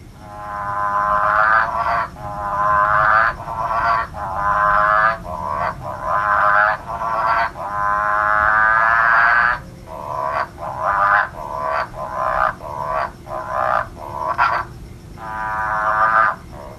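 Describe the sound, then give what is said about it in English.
A chorus of frogs croaking steadily and loudly in a backyard pool in Perth, with overlapping rhythmic calls repeating in quick pulses over the whole stretch and no voices. “he says that they're in his pool, in his backyard in Perth.”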